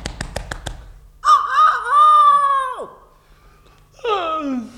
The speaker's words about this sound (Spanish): De pronto, en la granja, que estaba muy cerca del bosque, se escuchó el vibrante canto del señor gallo.